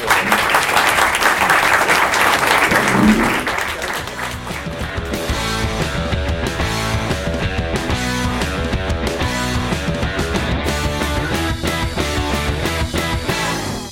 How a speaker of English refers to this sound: And a big round of applause for people on the panel. Thank you, guys. Thank you.